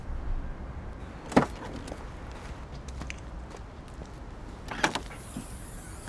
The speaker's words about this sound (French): Bon, vous sortez de la voiture, vous ouvrez le coffre.